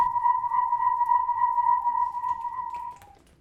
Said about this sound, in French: Aussitôt, Merlin utilisa le sifflet magique qu'il portait autour de son cou.